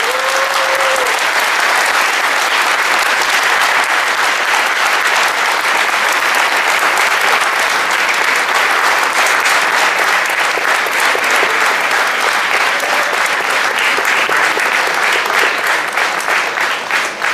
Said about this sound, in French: Je voudrais, s'il vous plaît, que vous fassiez un tonnerre d'applaudissements pour le président de MZ